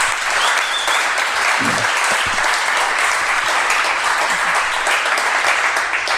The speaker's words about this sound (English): And as this is a live podcast, we can give her a warm round of applause in the beginning.